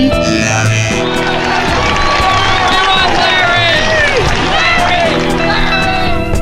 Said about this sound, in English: Isn't it fun to hear people screaming your name? Of course it is.